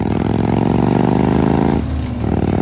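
An old Harley motorcycle with loud pipes, ridden back and forth to work along the highway, rumbles steadily, its deep, throaty exhaust pulsing throughout; the engine note briefly drops and eases off near the end before picking back up. No voices.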